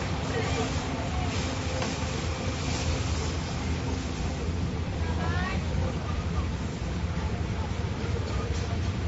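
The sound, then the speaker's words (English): A steady, heavy low rumble of a train rolling past during a baseball game, with a faint high screech rising midway and crowd-like background noise throughout. “Got our first train rolling by.”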